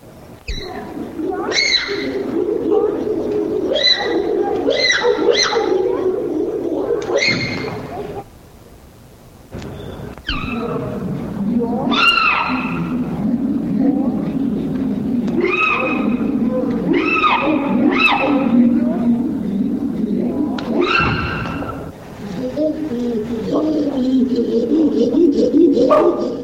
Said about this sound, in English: Now, hooting by a single individual. Vocalizations. The first example is by a bonobo and is immediately followed by a slowed-down version of the same hoot. The second example is hooting by a chimpanzee.